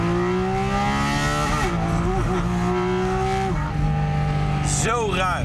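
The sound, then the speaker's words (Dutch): A 500 hp sports car's petrol engine revs hard and high, its strained tone holding, dipping briefly between gear changes and climbing again, loud throughout. “Maar benzine is 5.500, 6.000. Een beetje sportieve auto. Misschien een keer 7.000. Heel soms 8.000. Ja, en deze gaat gewoon helemaal door.”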